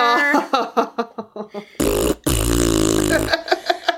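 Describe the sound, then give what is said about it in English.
A series of short, bubbly vocal bursts leads into a long, loud, sputtering fart noise lasting over a second, followed by a few brief sounds at the end. “So, fart noises.”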